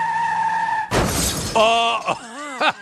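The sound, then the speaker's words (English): A steady electronic hum cuts off into a sudden, loud smashing crash as a camera is smashed, lasting about half a second, followed by bright sustained tones and quick wavering, voice-like warbles. “you just smashed that camera.”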